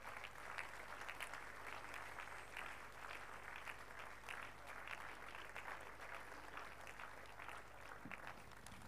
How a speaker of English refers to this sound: Make that clap bigger for the Lord. No one like Him.